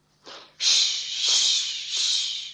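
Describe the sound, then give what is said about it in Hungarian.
Apples sizzle as they bake by a stove: a short hiss, then a loud, steady, high-pitched sizzling that swells gently in a few waves. No one speaks. “Féle zaj a kályha mellett. Sülni kezdtek az almák.”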